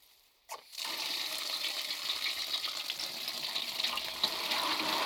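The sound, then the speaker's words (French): A tap is turned on and water runs steadily into a large iron basin with a sieve over it while elderberries are stripped, a bright hissing splash with faint metallic ringing, continuous. “Une grande bassine en fer devant moi, un tamis par-dessus. J'égrène les petits fruits de sureau, des petites billes d'un pourpre presque noir, de 3 à 4 mm de diamètre, et j'ouvre le robinet.”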